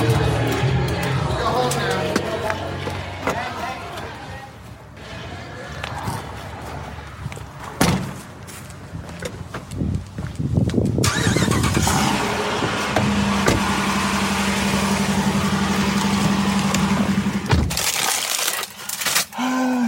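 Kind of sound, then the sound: vehicle, getting into car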